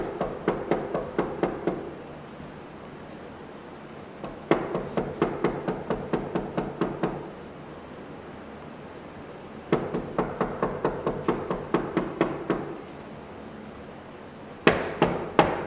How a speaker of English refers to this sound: You go to a friend's house, or friend, excuse me, goes to your house, and he arrives at nighttime. We know that because the person says they're in bed. It's at nighttime. And he knocks on the door.